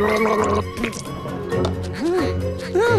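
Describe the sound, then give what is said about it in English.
A bee gargles honey mouthwash, a bubbly, throaty warble whose pitch rises and falls in a few short bursts over a steady musical background. “A bee applies a honey gel to his hair, a honey mouthwash, and underarm deodorant.”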